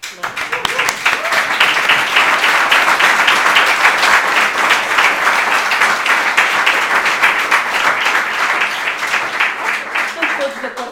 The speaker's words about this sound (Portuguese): Mas obrigada pelo aplauso.